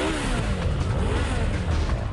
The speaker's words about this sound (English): One final biker joins the ring of motorbikes. The rider dismounts and swaggers forward.